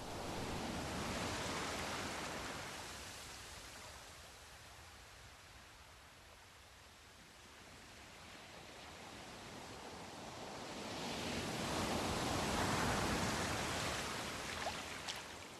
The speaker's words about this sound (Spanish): Siente cómo poco a poco te invade la calma del oleaje tranquilo.